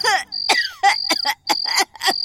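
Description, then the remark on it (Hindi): A strange, harsh coughing fit by an old woman: about five rasping bursts in quick succession, fairly loud, with an eerie high whistling tone threading through them, coming from the direction of a deserted room. “तभी किसी बुढ़िया की खांसने की आवाज आई, बड़ी अजीब आवाज थी।”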